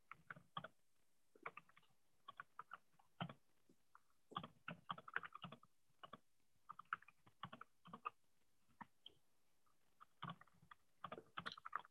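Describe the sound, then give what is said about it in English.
Steady typing of a comment on a computer keyboard, quick bursts of light clicking keystrokes with brief pauses between runs, quiet, with no voices present. “Now we have opportunity for, well, I'm gonna keep typing this comment, but if anyone wants to bring up any other topics to discuss while we're together today.”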